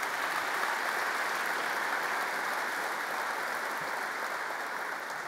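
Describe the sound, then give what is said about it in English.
Steady applause from a large crowd for the Joint Chiefs and the combatant commanders, a dense, even wash of clapping that holds at a fairly constant level for several seconds with no voices over it. “So let's give the Joint Chiefs and the combatant commanders a round of applause.”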